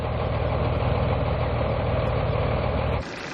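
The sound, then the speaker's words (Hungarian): Heavy diesel engines of a tractor and a fire engine rumble loudly and steadily, a deep throbbing drone with no voices, easing off abruptly just before the end, as the tractor helps the fire engine pull a stuck truck near Kaposmérő, Somogy County, after firefighters tried for hours to free it. “Végül egy traktor segített a kamiont húzó tűzoltóautónak.”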